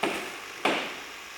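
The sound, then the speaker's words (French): Two sharp hammer blows land about two-thirds of a second apart, heard from behind a door leading into a huge workshop. Each is a bright, loud strike with a short ringing decay, with no voices. “Derrière la porte, Bully entend des voix et des bruits de marteau.”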